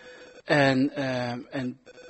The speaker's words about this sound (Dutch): Ja. En ik hoorde gepiep, maar het is nu weg. Iemand is een spelletje aan het doen.